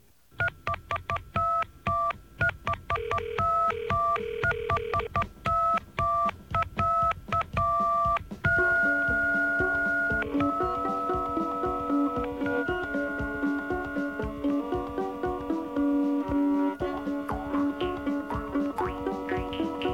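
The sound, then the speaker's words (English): Keypad tones of a real-life Snowden payphone in Montreal beep in a quick, uneven run of short dual-pitched presses for several seconds, then give way to a steadier, sustained tonal passage. No one speaks. “It's a six-part radio play by Montreal writer and musician Norman Navrotsky, blending fact and fiction and starring a real-life Snowden payphone.”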